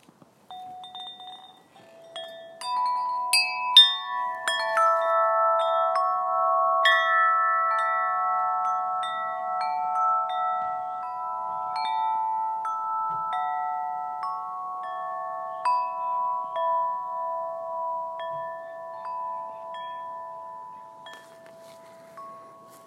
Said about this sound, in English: Just some chimes I recorded in my backyard.